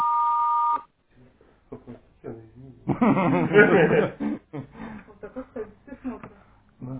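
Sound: voicemail answering machine beep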